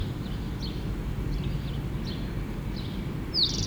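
A bird sings a thin series of short, high chirps spaced about half a second apart, ending in one louder downward-sliding note, over a steady low rumbling background.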